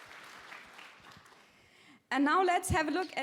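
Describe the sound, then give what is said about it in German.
A steady patter of applause from a crowd at a company presentation, thanking partners including the NOC, runs for about two seconds, fading slightly, before it cuts off and a loud voice begins speaking. “Daher vielen Dank an unsere vertrauenswürdigen Partner, das NOC. Applaus.”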